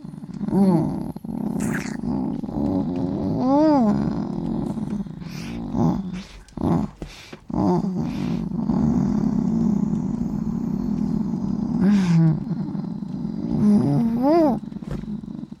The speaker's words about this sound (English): I think somebody likes that. The cuddle pile has become the purr pile.